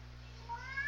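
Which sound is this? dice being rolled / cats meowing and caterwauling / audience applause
cats meowing and caterwauling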